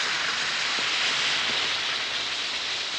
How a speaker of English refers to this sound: Drop 1 or 2 Alka-Seltzer tablets into a glass of water like this, and listen to it fizz.